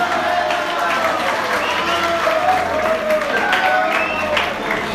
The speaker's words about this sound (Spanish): ¡Guay! Denle un aplauso a